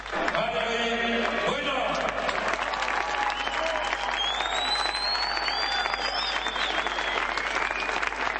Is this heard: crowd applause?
yes